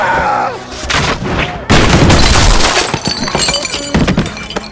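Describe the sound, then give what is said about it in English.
A sharp, loud gunshot from Diggins cracks out in a saloon, smashing into the mirror behind the bar, followed at once by a burst of shattering glass, with bright shards tinkling and clattering for a few seconds afterward. “Diggins' shot smashed into the mirror behind the bar, scattering shards of glass.”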